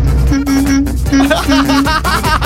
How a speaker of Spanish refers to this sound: Ahora, manda tu bocinazo.